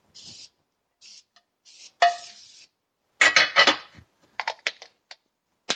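A 9x13 glass baking dish is set down and shifted with a few hard clatters, followed by several sharp, bright clinks and taps, and is sprayed with cooking spray. Brief soft hissing bursts come first. No one speaks.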